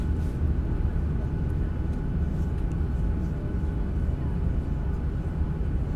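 A steady, loud low-frequency drone fills the whole stretch without pause, the constant engine rumble inside an airplane cabin, with faint murmurs of voices beneath it.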